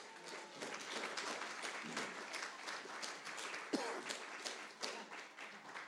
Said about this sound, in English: Now, that clap didn't last quite long enough. I should have warned you because I needed to get over to the suitcase, undo the zips, open the lid,